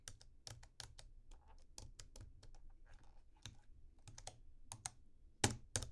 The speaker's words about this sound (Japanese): タイピングはこんな感じでしょうか。